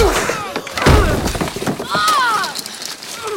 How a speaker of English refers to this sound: He punches him.